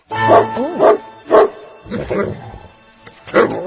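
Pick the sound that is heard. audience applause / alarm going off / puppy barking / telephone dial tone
puppy barking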